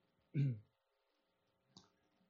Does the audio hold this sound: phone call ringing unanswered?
no